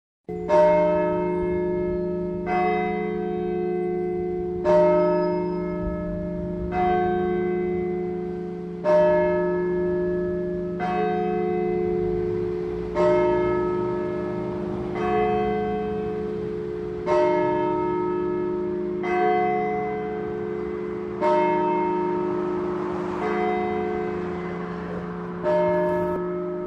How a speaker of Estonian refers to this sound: Just nende kaunikõlaliste kirikukellade pühitsemise 100. aastapäeval kuulemegi nüüd 2 aasta tagust intervjuud ja saame ka osa Pauluse kirikukellade helinast.